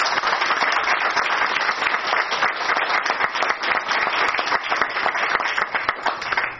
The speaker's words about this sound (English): I think it would be right for the audience and folks here to applaud.